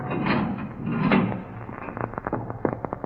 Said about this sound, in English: I kept a check on the time, and it was 20 minutes before they were due to arrive at the Marquardt building when a sound stopped me. The steel door was being opened.